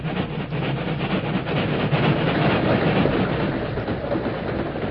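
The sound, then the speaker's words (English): A long freight train rumbles steadily past on the rails along a railroad right-of-way east of Elk City, its cars clattering with a continuous rhythmic clack, loud throughout, with no voices. “We'll wait here in this ravine till the train goes by, Tonto.”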